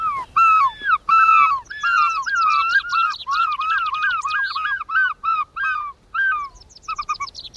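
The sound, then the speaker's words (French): A person imitates the cry gulls give when they see the sea: loud, nasal, squawking calls repeated in quick, overlapping bursts for several seconds, prominent with no other talking. “Et puis un soir, j'ai eu l'idée de pousser le même cri qui pousse quand eux voient la mer.”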